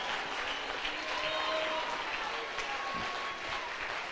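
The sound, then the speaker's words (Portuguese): An audience standing and applauding Jesus during a church service, a steady dense wash of clapping from many hands that holds evenly throughout, with faint voices and a few brief shouts mixed into the noise. “Fique de pé para aplaudir esse rei Jesus.”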